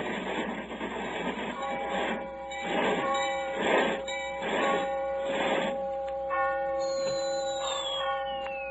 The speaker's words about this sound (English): An hour and 20 minutes later, we are in London. As we enter the station, the clocks are striking.